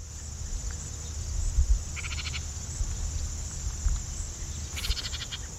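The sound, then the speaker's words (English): A house wren gives two short, rapid chattering bursts a few seconds apart, dry and buzzy, over a steady high-pitched hiss and low background rumble. “We've got some bird calls here. First, the house wren.”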